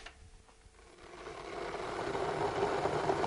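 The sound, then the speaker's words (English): An electric kettle heating water for making a bicarbonate of soda solution, a steady hissing rumble that swells gradually louder over a few seconds, with no voices present. “And just while the kettle's boiling, how much bicarb are you going to use?”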